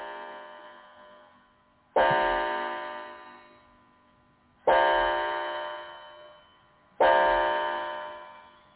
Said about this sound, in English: And we have another striking clock we just got.